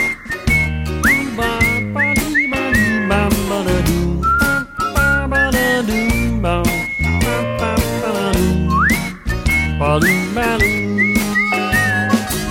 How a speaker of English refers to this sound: Ooh, hey, that's nice whistling there,